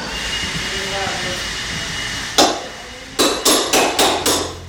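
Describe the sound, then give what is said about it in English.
Sharp hammer blows ring out against wood as a volunteer pulls up baseboards in the front room of a house, a single strike followed by a quick, steady run of five more, all over a constant background roar of rushing air. “In the front room, a volunteer pulls up baseboards.”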